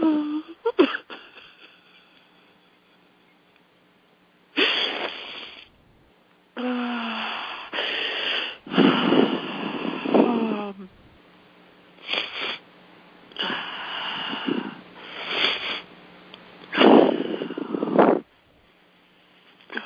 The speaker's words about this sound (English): Let that emotion flow. Breathe. Breathing, letting it happen, honoring that emotion.